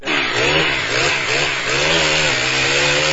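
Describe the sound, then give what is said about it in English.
Chainsaws roar steadily as workers near New Orleans cut up storm debris and fallen tree limbs, the loud buzzing engine pitch wavering up and down as the blades bite into wood, with no talking. “Those are workers near New Orleans cleaning up storm debris, down tree limbs and the like.”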